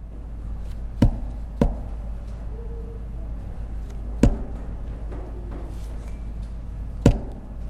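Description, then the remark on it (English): Four sharp, hard knocks on a wooden door, unevenly spaced, a quick pair followed by two single raps after longer pauses, over a low steady hum with no voices. “they're beginning to knock on the boat.”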